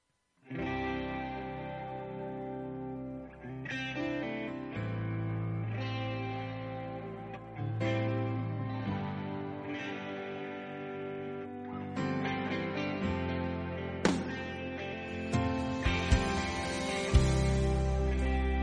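A steady instrumental music intro with a full band sound: heavily effected, chorused guitar chords over sustained bass, building gradually in loudness with no voices.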